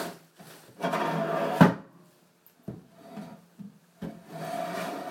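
Rats grinding their teeth: a series of rough rasping and scraping bursts, one longer grind followed by shorter irregular scrapes, with no voices.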